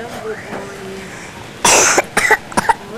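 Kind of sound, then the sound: human body sound, cough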